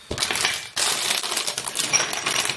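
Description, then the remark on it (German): Whole, unroasted Californian almonds, bought ready-packaged, rattle and crackle inside their packaging, a dense, bright clatter in two loud bursts with a brief pause between them, and no voices. “Kalifornische Mandeln, ganze Kerne.”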